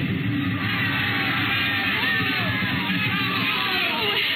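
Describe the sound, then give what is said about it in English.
A large festival crowd yelling and cheering all at once in a plaza in Mexico on a spring night, a dense, steady roar of many voices that stays loud throughout with no single voice standing out. “Mr. and Mrs. William Travis stood on the edge of the yelling crowd, smiling.”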